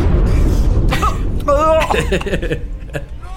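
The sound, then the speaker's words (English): A fit of harsh, rasping coughs, several bursts in quick succession with strained, wheezy vocal catches between them, fairly loud at first and trailing off toward the end. “When you talk like that after you've just coughed up your lungs a bit.”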